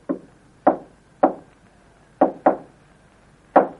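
Six sharp knocks on a wooden living-room door in an irregular pattern: a faint one, then two, a pause, a quick pair, and one more. They are clear, with no voices.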